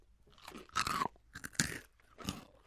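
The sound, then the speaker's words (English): Crunchy Moon Cheese snacks, little cheese puff balls, being bitten and chewed: a run of five or six sharp, crackly crunches in an uneven rhythm, fairly loud with no talking. “to point out to our listeners out there, the moon cheese is little puff balls and doesn't look like a chip at all.”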